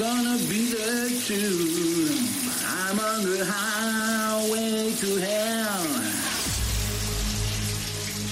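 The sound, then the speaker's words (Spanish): A steady hiss of running shower water fills the whole clip while a person sings a wavering melody over it, loud, ending in a lower rumble. “¿quién sí. canta bajo la ducha de Rock FM?”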